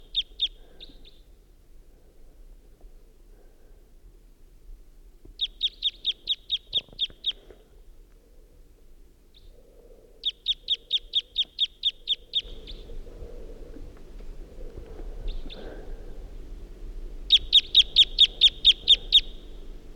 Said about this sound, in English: It's 5:50 a.m. and there's a wild bird around who is giving type 2 calls and song.